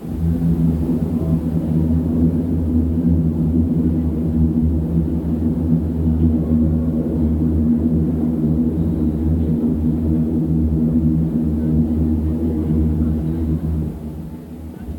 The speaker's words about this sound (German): Das ist einer von 2 Sounds, die für mich bei der Republika immer wiederkehren. Das ist einmal die U-Bahn, wenn sie über die Brücke rattert